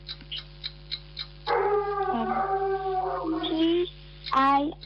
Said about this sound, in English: What dog's barking there, sister? No. The neighbor's one. Vicious dog, sister. I'm getting scared here. Barking so loud,